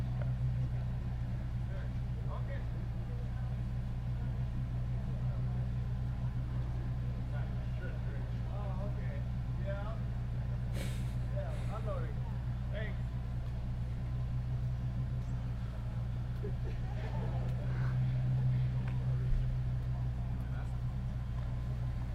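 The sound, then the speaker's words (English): A vehicle engine idles steadily outside, a constant low rumble holding through the whole stretch with faint muffled voices and small clicks drifting over it. “Maybe the engine would be nice if he turned it off.”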